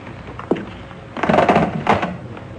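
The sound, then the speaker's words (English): A single knock-like thunk, then a locked French door into the garden is tried: the handle rattles and the door shakes in its frame twice without opening, moderately loud. “the French doors into the garden, they're locked.”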